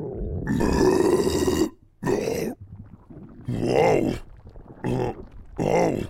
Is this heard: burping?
yes